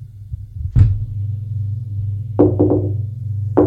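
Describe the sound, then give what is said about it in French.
Sharp knocks on a door over a steady low hum: one solid rap, a pause, then a quick burst of three, and a final single knock. “On a frappé à la porte.”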